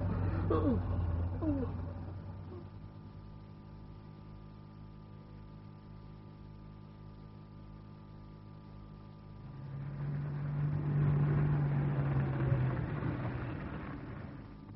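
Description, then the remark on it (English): A car engine idles with a steady low hum, left running for two or three minutes to warm up in snowy conditions, then grows louder and rougher for a few seconds near the end before easing back slightly. “Leave her running for two or three minutes to warm up.”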